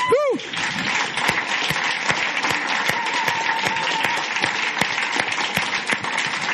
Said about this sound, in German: Wow, und ich will euch nicht zu fest strapazieren, aber können wir nicht noch einmal Jesus einen Applaus geben für diese Woche?